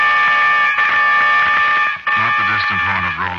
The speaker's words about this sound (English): And over the scene comes the sound of a distant horn.